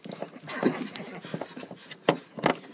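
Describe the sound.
Heavy, breathy panting, a run of ragged exhales with a few sharper, louder gasps near the end, over a faint murmur of background noise.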